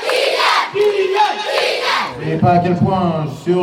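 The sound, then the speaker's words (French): An enthusiastic crowd in Bondy, France cheers a footballer who has come to his hometown to celebrate his French championship title with his former club. It is a loud, continuous, dense roar of many voices with shouts and rising chants that swell toward the end. “Le vice-président de l'AS Monaco le suit, et donc devant eh bien, une foule enthousiaste, il vient fêter son titre de champion de France avec son ancien club.”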